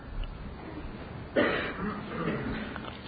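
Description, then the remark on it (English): A single abrupt cough or throat clear bursts out, followed by a second or so of rough, muffled vocal noise against a quiet room background. “I thought you were coughing for me there.”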